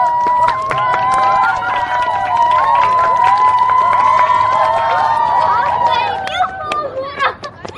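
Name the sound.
audience applause and cheering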